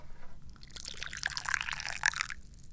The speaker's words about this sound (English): What I am is the chairman of the Dubious Goals Committee, and that means I need to pour some tea.